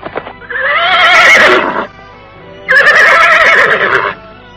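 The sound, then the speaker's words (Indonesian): A horse whinnies loudly twice, each call a long, shaky, wavering neigh lasting over a second, separated by a short pause, with no voices and only faint low rumbling underneath, as three horses approach from afar at night at the edge of a village. “Dari jauh, terdengar derap tiga ekor kuda mendekap.”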